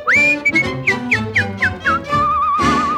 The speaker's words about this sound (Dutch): Als hij fluit, klinkt er een vrolijk lied.